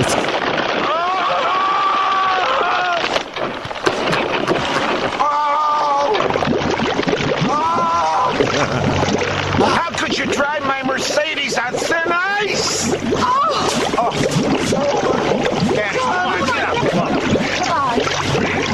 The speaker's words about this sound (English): And play special attention to the sound of breaking ice and gurgling water.